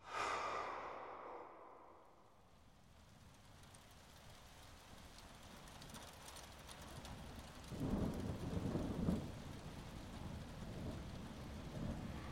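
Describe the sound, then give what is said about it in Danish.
Steady rain hisses throughout while low thunder rumbles, with a louder roll of thunder swelling near the end. No voices, just the storm. “Jeg forestiller mig, at det må have regnet den aften. Et uvejr over Nyborg, forestiller jeg mig.”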